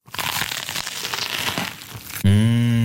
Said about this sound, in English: Mmh, crunchy. Cross. Und saftig.